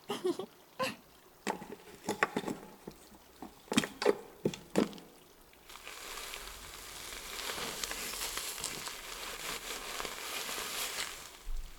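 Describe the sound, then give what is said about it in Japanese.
Wet, squishy squelches in quick irregular bursts, then a steady crackling fizz like carbonated foam bubbling, lathering shampoo in hair at a moderate level, with no voices. “次は炭酸シャンプーを泡立てて、今度は羊が乗っかったみたいなアフロヘアにしようかな。”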